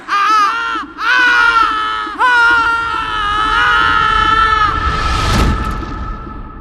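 A newborn baby cries loudly in several long, strained wails with brief gasping breaks, ending in a harsher burst of noise.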